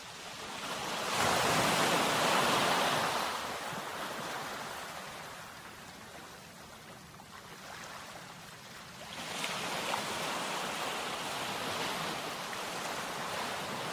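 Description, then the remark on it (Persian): Broad, rushing sea waves surge in and recede, swelling loudly at the start, easing off, then building again near the end, with no voices present. The waves carry a cage toward a sunken ship. “امواج دریا قفس رو به طرف کشتی غرق شده هدایت کرد.”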